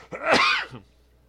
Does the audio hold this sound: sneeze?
yes